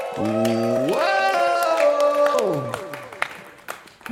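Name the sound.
audience applause and cheering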